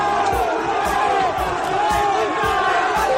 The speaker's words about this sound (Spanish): y de todos los temas sobresale el recibimiento que los aficionados de la Real Sociedad han hecho al autobús del Atlético de Madrid.